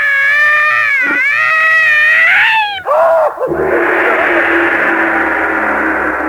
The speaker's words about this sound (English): Yowling and screaming like a cat. It's a cat, you hear me? A cat!